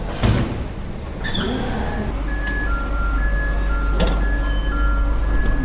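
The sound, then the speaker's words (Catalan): A commuter train on the R1 Maresme line rumbles into the station with a steady low drone, sharp clunks and a whoosh of sliding doors, then sustained high electronic tones like door beeps ring out over the hum. “Per aquí passa la R1, la línia del Maresme, què tal?”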